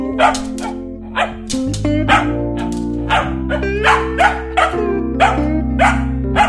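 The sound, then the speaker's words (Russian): A dog barks over and over, roughly ten sharp yaps in a quick, uneven rhythm, with a steady sustained musical tone underneath. “А вдруг она лает что-то важное? Ты чего? Это же собака.”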